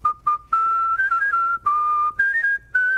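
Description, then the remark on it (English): A man whistles the Happy Birthday melody for free for someone in Washington, D.C., clear, in short bright phrases separated by brief pauses, with no talking. “whistles happy birthday for free to people all over D.C.”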